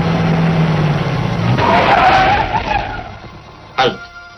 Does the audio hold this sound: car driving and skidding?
yes